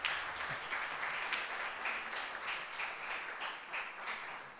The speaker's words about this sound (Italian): L'applauso.